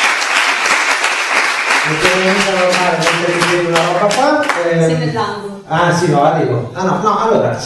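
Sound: audience applause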